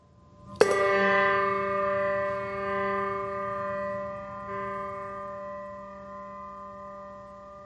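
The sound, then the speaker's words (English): A single deep church bell strikes once, loud, tolled as a final bell in remembrance of loved ones for All Saints, then its rich ringing hum slowly fades over several seconds with no voices present. “A final bell tolls for them all.”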